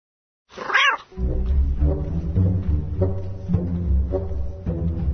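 A single drawn-out meow from a black cat rises and falls at the start, followed by low, sustained droning tones with soft rhythmic pulses continuing to the end.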